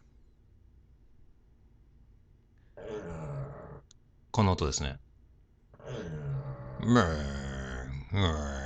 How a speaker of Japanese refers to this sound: 今うちの犬が何かやってますね。聞いてみてください。